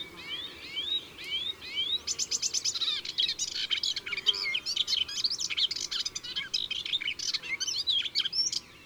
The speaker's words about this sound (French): l'Hippolaïs polyglotte est beaucoup plus nerveuse.